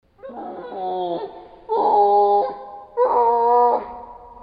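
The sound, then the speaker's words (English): Three drawn-out, wavering tonal calls with rich harmonics, each lasting about a second: a tufted capuchin monkey vocalization slowed down by a factor of 4, sounding eerie and almost whale-like, with brief gaps between them. “This is a vocalization of a tufted capuchin monkey. And this is the same sound with time slowed down by a factor of 4.”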